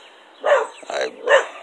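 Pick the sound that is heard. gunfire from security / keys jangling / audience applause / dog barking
dog barking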